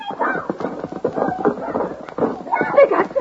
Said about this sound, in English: Stop that horse. I'll get him.